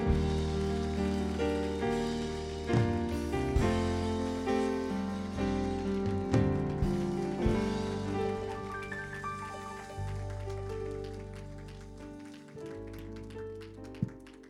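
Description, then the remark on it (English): A standing audience at the Fire and Glory Camp Meeting claps steadily for about fifteen seconds to welcome a speaker, the dense crackle of applause blending with loud, sustained instrumental music chords underneath. “And I want you to open wide your spirit and your mind and receive and stand to your feet as we should and receive with a great, great applause at Fire and Glory Camp Meeting”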